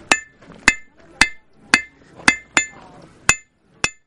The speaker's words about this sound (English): A blacksmith making tools by heating metal over fire.